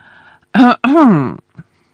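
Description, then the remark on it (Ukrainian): A voice imitates clearing its throat: two short, voiced, prissy 'ahem'-like bursts, the second longer with a rising-falling pitch. Clear, with only faint background hum around it. “Вона витягла аркуш пергаменту, розгорнула, прокашлялась і почала читати.”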